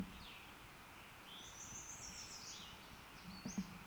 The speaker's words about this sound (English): Second bird off to the side.